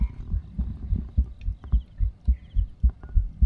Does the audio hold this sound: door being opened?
no